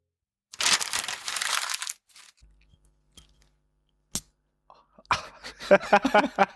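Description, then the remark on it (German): Foley handling noises of a small, cheap glass: a brief crinkly rustle, a lone sharp tap, then a burst of light clinking and scraping near the end. “Man hört, dass das billige kleine Glas ist.”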